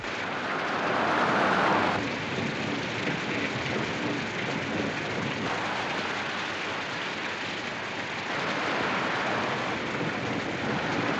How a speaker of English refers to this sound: In torrential rain, Wentworth drives his car along a dark, deserted country road.